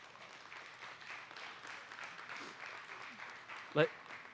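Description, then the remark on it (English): A church audience applauds the married men standing up, in a steady, dense wash of clapping mixed with crowd voices, holding an even level throughout, with one sharp, louder knock standing out near the end. “And would you give them, church, a round of applause?”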